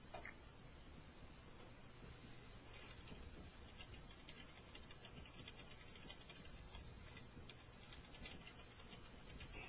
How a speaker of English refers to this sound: You've heard that noise before. That's the clackety-clackety of somebody on a keyboard.